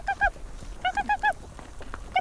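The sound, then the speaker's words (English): A Sami herder calls reindeer to feed: short, high, nasal honking cries, two quick ones, then a rapid run of four, then one more, strong and clear against quiet background. “a fire-haired Sami shaman, calls them to feed with a distinctive sound.”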